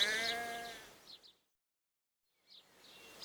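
A single baby sheep bleats at the start, a wavering cry that fades into a couple of short chirps, followed by a stretch of silence and then faint rustling noise.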